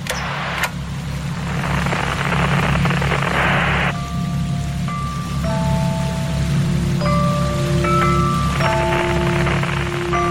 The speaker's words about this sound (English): First I hear of it is just a sliver, a thin thread of sound woven into a dense matting of static and interference. But I know immediately that it's meant for me.